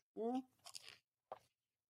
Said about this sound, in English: Okay. So let me take a sip of water.